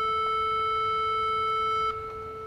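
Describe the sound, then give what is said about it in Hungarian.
A steady, hollow-sounding frequency-modulated triangle wave test tone holds one mid pitch with faint overtones, playing alone for about two seconds before dipping slightly in level near the end. “Nézzük még meg a háromszögjelet is.”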